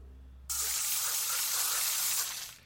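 A soda gun nozzle sprays in one steady, loud hissing burst that starts abruptly, holds for about two seconds, then tapers off. No one speaks.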